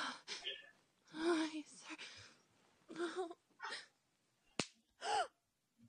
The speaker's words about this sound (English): Slap your ass for me.